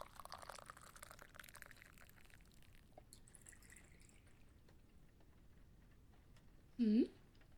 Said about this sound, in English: Why don't you take a shot with me? No, I'm serious. Go ahead. Let me pour you one.